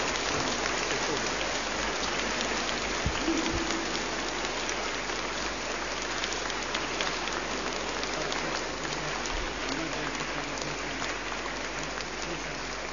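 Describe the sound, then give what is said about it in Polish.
A large crowd applauds warmly for Pope Benedict XVI, a dense, steady wash of clapping that holds at an even loudness for about thirteen seconds with no voices standing out. “Niech popłyną z naszych serduszek gorące oklaski, które będą wyrazem naszej miłości do Ojca Świętego Benedykta XVI.”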